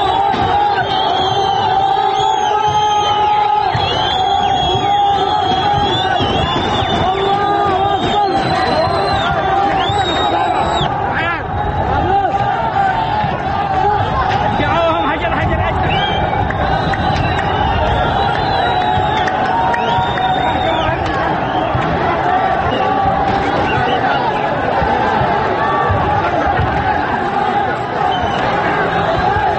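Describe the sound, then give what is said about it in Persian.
A large crowd of protesters attacking the US embassy in Sanaa, Yemen, destroying its main gate, breaking windows and throwing stones at cars, shouts and chants continuously, a dense roar of many voices with occasional higher yells rising above it, loud and unbroken throughout. “روز پنجشنبه اعتراضگران به سفارت آمریکا در پایتخت یمن شهر صنعا حمله کردند.”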